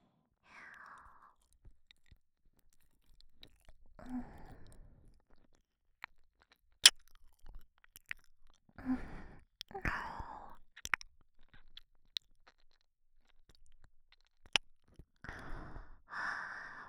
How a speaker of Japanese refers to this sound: お耳を舐められたり、 私もいただきます。